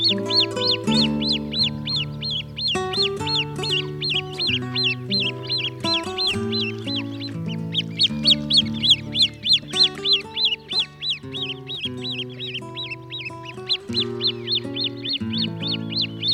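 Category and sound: bird, great crested grebe calls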